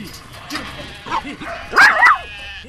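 Sheep bleat in the sheepyards of a sheep and cattle farm at Kalangadoo, in the southeast corner of South Australia, with a few short, moderate calls followed by one louder, wavering bleat near the end. Faint yard noise sits underneath.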